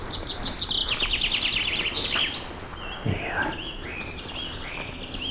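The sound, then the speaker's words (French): Birds chirp and trill continuously outdoors at 7 in the evening in a clearing of alpine meadow, several high, rapid calls overlapping, with a louder descending whistle near the middle and a steady soft background hiss. “Ces oiseaux qui à 19h du soir, ces gosilles au milieu de ce tapis soyeux d'herbes, des gouttelettes de rosée, des fleurs”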